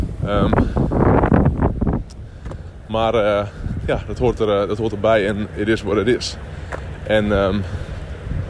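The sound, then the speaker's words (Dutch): Gusty outdoor wind rumbles and buffets against the microphone, strongest in a brief burst at the start, then continuing as a low roar beneath a man talking. “Een beetje winderig hier hoor.”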